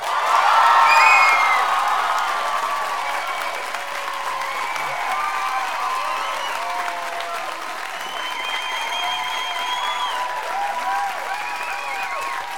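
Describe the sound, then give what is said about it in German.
An audience applauds steadily for about twelve seconds, a dense wash of clapping that swells at the start, with a few whistles and cheers rising above it. “Euer Applaus für Herr!”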